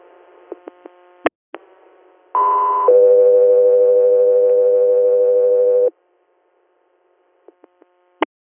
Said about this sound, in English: Guthrie Air, standby for tones.